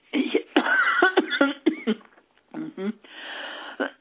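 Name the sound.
woman coughing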